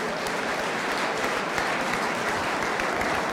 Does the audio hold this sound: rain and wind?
no